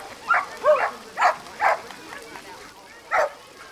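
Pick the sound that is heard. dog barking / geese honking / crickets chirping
dog barking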